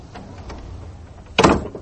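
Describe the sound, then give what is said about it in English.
A storm porch door is closed behind someone in the dark, swinging shut with a single sharp, rattling clack near the end, after a stretch of low, muffled rumbling and a few faint creaks. No one speaks. “I closed the storm porch door behind me, felt for the back door in the dark, found it.”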